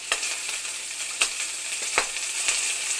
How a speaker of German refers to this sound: Der andere brutzelt eine proteinreiche, überaus beliebte Delikatesse, Heuschrecken, knusprig braun im China-Wok.